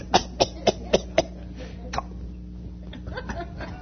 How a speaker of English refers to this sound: Cough it up.